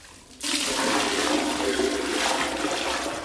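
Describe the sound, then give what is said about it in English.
After a brief quiet moment, a woman in Harare, Zimbabwe, pours used bathwater from a bucket into a toilet bowl, a sudden loud rush of steady gushing and splashing that continues until the end, with no voices. “uses a bucket to transfer water she used to bathe from her tub to her toilet.”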